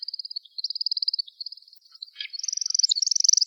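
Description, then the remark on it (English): A male woodcock's aerial courtship display: a rapid, steady stream of high, thin twittering pulses during a spiraling climb that briefly falters, then returns louder as a quick run of bright, chirping notes during a falling leaf-style descent. “Followed by a combined audio-visual aerial display consisting of a spiraling, twittering climbing phase and a chirping, falling leaf-style descent.”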